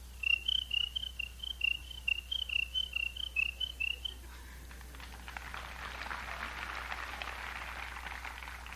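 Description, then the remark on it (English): An old bullfrog croaks in a quick, steady series of short repeated calls for a few seconds as it gets cool, then stops, leaving a dense, hissing chorus of night insects in the background. “And we got the old bullfrog. He just lays around in the shade, and every now and then, when it gets cool enough, you'll hear him work out.”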